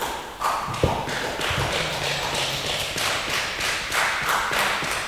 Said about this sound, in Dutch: Aan het eind van de doorloop, als licht, geluid en ensenering gezet zijn, klinkt er applaus van het artistieke team in de zaal.